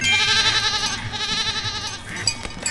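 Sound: goat bleating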